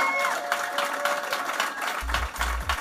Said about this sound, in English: All right, how about a little round of applause for this panel here?